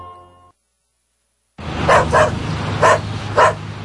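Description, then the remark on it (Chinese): A small pet dog, Xiao Guai, barks four times in quick, high-pitched yips, fairly loud, over a low steady background hum after a brief moment of quiet. “哎，孙女，你养小狗有没有预防狂犬病？”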